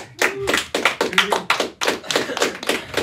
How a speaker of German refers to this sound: Das ist richtig, das ist der erste Punkt für den Freien von der Beine Basel. Applaus bitte.